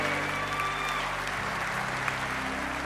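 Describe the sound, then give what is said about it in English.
A crowd claps steadily for three seconds after a baptism, a dense wash of applause filling the upper range with no pauses, while faint sustained tones hum underneath. “Hold on, keep clapping now, keep clapping.”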